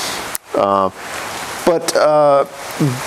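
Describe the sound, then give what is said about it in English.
Heavy rain pours down in a steady, dense hiss that fills the whole clip on a cold, dark, dreary day in Virginia, with a person speaking in short bursts over it. “It's a cold, dark, dreary day here in Virginia, just pouring down rain.”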